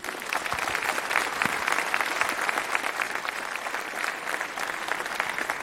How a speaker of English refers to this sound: with a big, warm round of applause and have a lot of fun.